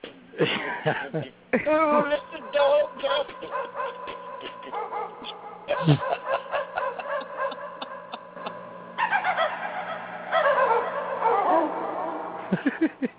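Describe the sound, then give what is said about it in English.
Electronic dog barks and yips played from a keyboard sound in quick, loud bursts, with a thin, synthetic tone and steady underlying hum; the barking repeats in clusters for several seconds. “Somebody's dog is really loud. No, it's my keyboard.”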